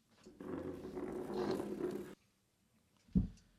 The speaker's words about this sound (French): Je n'aime pas le bruit de la chaise qui grince parce que ça rend mal à la tête.